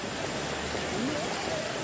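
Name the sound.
floodwater rushing through streets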